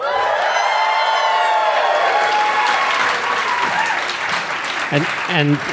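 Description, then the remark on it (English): A packed house at a live show at the Bell House in Gowanus, Brooklyn, breaks into sustained applause and cheering, with whoops and shouted voices rising over a steady wash of clapping that stays loud for the whole stretch. “So let us know that you're packed right now.”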